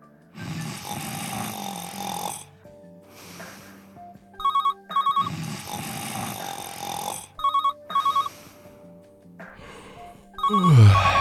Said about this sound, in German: Scheiß Telefon.